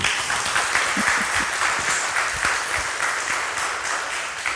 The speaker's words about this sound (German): Bitte begrüßt mit einem ganz großen Applaus für Der Staat ist keine schwäbische Hausfrau